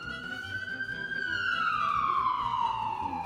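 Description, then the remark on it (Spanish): Two ambulance sirens wail loudly, one long tone gliding up and then sweeping slowly down, over a busy rumble of street noise. “¡Qué estruendo! ¡Dos ambulancias!”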